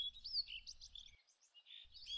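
small birds chirping

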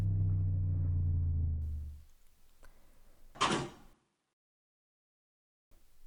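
door sliding open

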